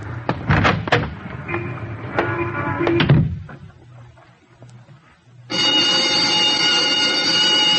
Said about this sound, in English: That's a second bell